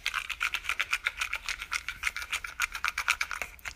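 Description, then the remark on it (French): Five small slips of paper are shaken inside a box for a prize draw, a dry, rapid rustling that pulses in a steady rhythm of quick shakes for a few seconds with no one talking. “Alors je secoue la boîte.”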